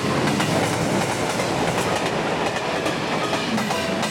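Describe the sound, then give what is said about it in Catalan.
A train rolls steadily over rail tracks, a dense, continuous rumble with faint rhythmic clacking of wheels on the rails, loud and unbroken throughout with no voices. “En la zona donde yo vivo va des de la Meridiana hasta las vías del tren.”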